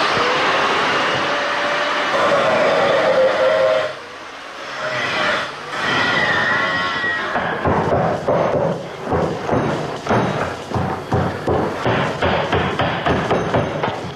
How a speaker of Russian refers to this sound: Я продемонстрирую, как, например, звучит металл, который режется так называемой флекс-машины. Это грубый, такой брутальный звук, но мне этот звук родственен, я люблю этот звук.